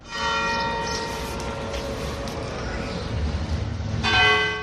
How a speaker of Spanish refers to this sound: La muerte del Papa en Albacete se anunció con las campanas de la Iglesia, comenzando por las de la Catedral, en las que se ofició un sencillo responso con decenas de fieles convocados.